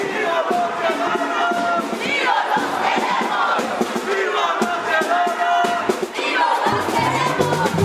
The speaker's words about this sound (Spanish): Estamos en la estación del Metro Ópera. En el centro de Madrid. Cerca de Ópera, en una manifestación en apoyo a los 43 desaparecidos de Ayotzinapa.